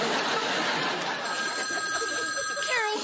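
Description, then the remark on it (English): A telephone rings steadily with a sustained tonal trill, moderately loud, over a busy background of murmuring voices and room noise. The call is from someone named Charlotte Bowser. “someone named Charlotte Bowser's on the phone.”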